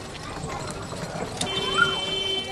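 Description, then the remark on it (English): Donkey cart hooves clip-clop at a steady, brisk rhythm through a narrow alley of a garbage-recycling district in Cairo, Egypt, the carts overloaded with bundles of trash, amid busy street noise, a faint high whine and indistinct voices in the background. “The alleyways here are just wide enough to accommodate small vehicles and donkey carts, lots of donkey carts overloaded with mammoth bundles of trash.”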